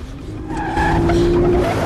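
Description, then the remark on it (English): A car engine revs up loudly, its droning pitch climbing and holding steady over a rough roar of road noise, with a tire-like squeal mixed in; no one speaks. “Meanwhile, Joe clips on his seatbelt and speeds up.”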